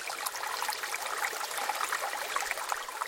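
Steady rushing of ocean water, a dense continuous hiss and churn that never lets up, fairly close and moderately loud, with no voices over it.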